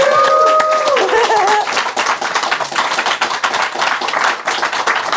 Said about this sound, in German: Jetzt könnt ihr schon ein bisschen klatschen.